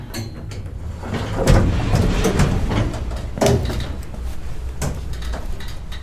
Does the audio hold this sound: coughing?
no